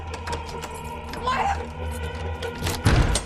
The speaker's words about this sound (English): She rushes inside, slams the door in his face, and locks it.